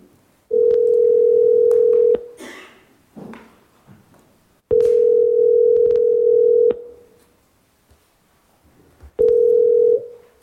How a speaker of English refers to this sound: You wonder what phone call? There's a phone call. It's going to ring shortly.